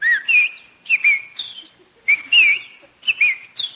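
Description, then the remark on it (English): Bright, bird-like chirping whistles from a bird on a lawn, in four quick bursts, each a short warbling phrase with a rising then falling twitter, fairly loud, with brief pauses between and no talking. “Oh, Jack, look at that beautiful bird on your lawn. Ah, look, he's hopping over to us.”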